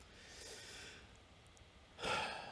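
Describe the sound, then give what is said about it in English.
Heavy, strained breathing from a woman struggling to breathe: a soft drawn breath early on, a quiet pause, then a louder rasping exhale near the end. No one speaks. “Boy, she's really struggling with her breathing today.”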